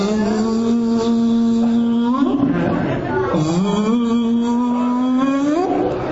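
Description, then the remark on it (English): A voice imitates a mosquito's whine with a steady, nasal buzzing hum that holds one pitch, dips and wavers midway, then climbs again, droning without a break for about six seconds. “You know when you're trying to sleep and the mosquito's...”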